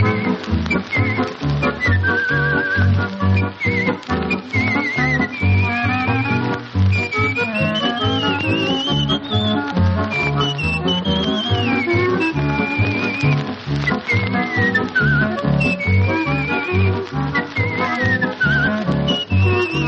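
A person whistles a flowing, lilting melody from the film 'Vernis, Sorrento', bright and clear, over a steady band accompaniment with a rhythmic bass, copied from an old record.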